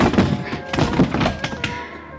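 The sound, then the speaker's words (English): A car door slams hard several times in quick succession against a man during a struggle, producing heavy thunks with a dull metallic ring, amid some faint scuffling noise. “Managed a half Nelson and let the car door workers my blackjack.”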